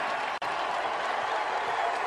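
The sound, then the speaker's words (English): A large stadium crowd roars as Pete Rose is introduced, a steady, loud wash of cheering with some booing mixed in, about 80% cheers and 20% boos, broken only by a split-second dropout near the start. No one speaks over it. “Now, John, you referred to it earlier as probably about 80% cheers, 20% boos.”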